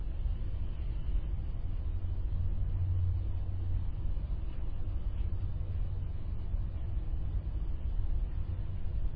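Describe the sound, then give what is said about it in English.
Steady low road rumble of cars passing by on a road, a continuous muffled wash of car noise with no distinct individual vehicles standing out and no voices. “Cars going by, clock ticking.”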